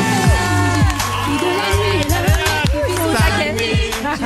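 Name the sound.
applause and cheering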